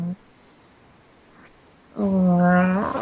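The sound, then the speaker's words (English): After a couple of seconds of near silence, a person lets out one loud, drawn-out meow, imitating a cat with a voiced, slightly rising tone. “The way you meow is so, so sexy.”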